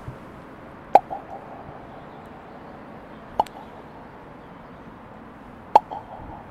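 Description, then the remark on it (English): Three sharp tongue clicks made with the mouth, spaced a couple of seconds apart, each a crisp hollow pop with a slight pitched knock, over a quiet low hiss. “Do a little clicking noise like this.”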